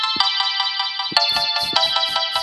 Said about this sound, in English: It's just the incidental synthesizer credit score music.